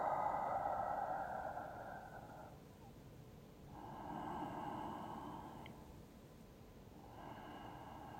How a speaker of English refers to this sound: One more time. Breathing in the amen. Exhaling the amen. Breathing in the amen, exhaling.